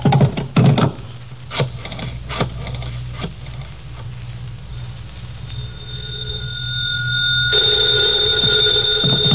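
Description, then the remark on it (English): A few sharp knocks and clicks at the start, then a telephone rings with a steady, high bell tone that swells and grows louder toward the end, with no one speaking. “Hand me the phone.”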